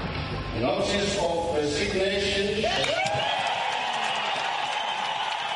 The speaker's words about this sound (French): Cris de joie et applaudissements au Parlement zimbabwéen, les députés n'ont certainement pas caché leurs sentiments à l'annonce surprise de la démission